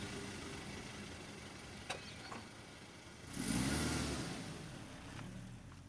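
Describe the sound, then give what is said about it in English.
A car engine rumbles low and steady as the car backs out of a driveway and drives off, then revs up in a brief surge of acceleration before settling back into a continuous hum, fairly quiet and with no voices. “ran to my car, backed out of the driveway, and headed in the direction of the bridge.”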